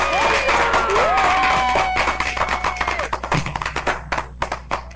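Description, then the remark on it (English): Cheering and whooping over a crowd gives way to rapid, uneven, sharp hand claps given for a caller on a radio show, a burst of applause-like clapping that thins into scattered individual claps toward the end. “Let me give you a clap, dog.”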